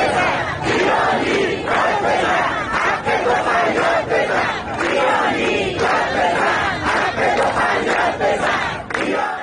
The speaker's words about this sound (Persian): آنها پنجشنبه روبروی استانداری جمع شدند و حق مسلم خود را فریاد زدند. آب، برق، زندگی. بنا به آنچه در شبکه‌های اجتماعی منتشر شده، معترضان تا تاریک شدن هوا در خیابان‌ها ماندند و شعار دادند.